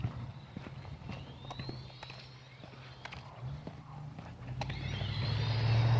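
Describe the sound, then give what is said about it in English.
A skateboard with single furniture-like casters instead of trucks rolls by with a steady low rumble and scattered clacks over the pavement, growing louder as it approaches near the end. No one speaks. “I don't know if you can hear him going whizzing by.”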